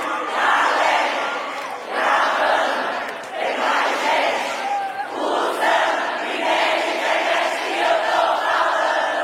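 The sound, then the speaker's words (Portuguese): A large crowd chants loudly in unison at a live show, the massed voices rising and falling in repeated rhythmic phrases, dense and continuous throughout. “Todo mundo! Se o Wi-Fi! E nem é de internet que eu tô falando. Mais forte, mais forte, bora, vai!”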